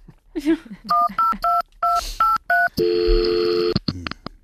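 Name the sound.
telephone number being dialed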